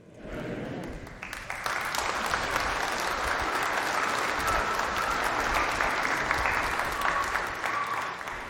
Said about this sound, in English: You must be clapping for more because I have 45 more minutes to go today.